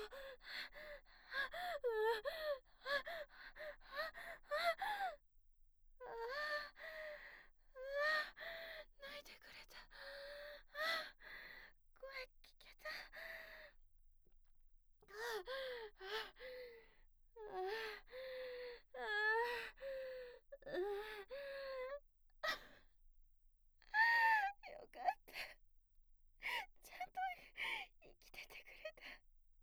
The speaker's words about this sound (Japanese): 赤ちゃん泣いてない？大丈夫？